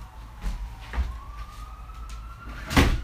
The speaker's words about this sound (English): You're probably going to hear some sirens in the background. Nothing I can do about that. Hold on.